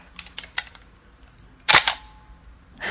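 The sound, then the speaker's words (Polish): A few light mechanical clicks, then one loud, crisp shutter snap with a brief trailing whir from a 1987 Hasselblad medium-format analog film camera, isolated with no talking. “Najfajniejsze w tym aparacie jest dźwięk migawki.”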